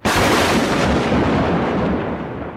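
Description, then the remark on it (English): A loud thunder boom cracks in suddenly and rolls on as a heavy, rumbling roar that fades only slightly over a few seconds, overpowering, with no voices present. “Fucking she walked up, thunder boom, my power went out.”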